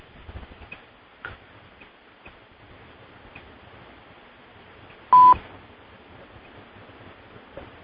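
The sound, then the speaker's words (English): A single short, loud electronic beep as someone checks into a conference call line rings out during a moment of silence on the call, with a few faint soft clicks scattered before it and no talking. “When you hear those little beeps, that means people are checking into the conference line.”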